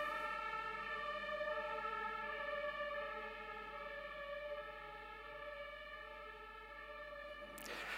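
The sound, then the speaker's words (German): A fire engine siren sounds steadily for the whole stretch, a loud, sustained high tone rich in overtones, easing slightly in volume partway through as it passes. No one speaks. “Wir hören die Feuerwehr, lasst uns einmal kurz beten.”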